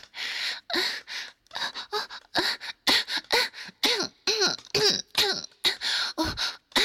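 A person coughs repeatedly in a long fit, about a dozen harsh bursts in quick succession with brief gasping breaths between them and no talking.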